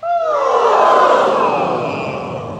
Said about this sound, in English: And can we just have a vocalised yawn? Start higher and finish lower.